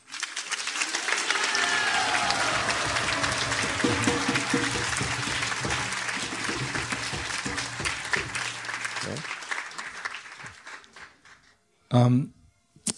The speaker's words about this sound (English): So we'd like two of them to stand up and you give them a big round of applause. Давайте попросим их встать, и мы все им поаплодируем.